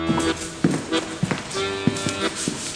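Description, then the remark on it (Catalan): A series of distinct footsteps of burglars pacing back and forth upstairs, each tap sharp and separate in an irregular walking rhythm, with some low background hum. “Aleshores, va sentir molt clarament unes passes que anaven d'ací cap allà i es va adonar que eren uns lladres que anaven a robar-li.”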